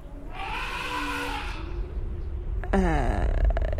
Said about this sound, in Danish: Elefanter? Det er en flok mammutter. Et stort fortidsdyr.